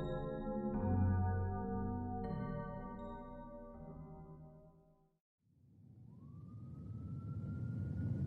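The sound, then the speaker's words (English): An ambulance siren blares in steady stepped tones, cuts off briefly, then a rising wail winds up over a loud engine rumble. No one speaks. “I woke up sitting in the back of an ambulance on the other side of the bridge leading to Old Town.”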